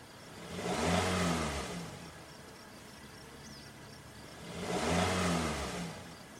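car engine revving

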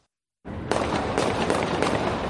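gunfire erupting

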